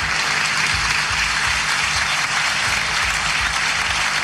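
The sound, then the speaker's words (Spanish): Loud, sustained standing ovation from the parliamentarians of the Constitutional Assembly applauding the words of Nicolás Maduro Jr., a dense wash of many hands clapping steadily for several seconds, with no voices breaking through. “Con una ovación, los parlamentarios de la Asamblea Constitucional se ponen de pie, además, para aplaudir las palabras de Nicolás Maduro Jr.”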